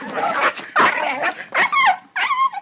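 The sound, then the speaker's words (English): A dog attacking a man snarls and growls in rough, noisy bursts as he hits it with his fists, then, when he bites its ear, breaks into several sharp, high yelps and whimpers with sliding pitch, loud and frantic over a few seconds. “Then, in desperation, Mr. Eckert lunged at the dog and...”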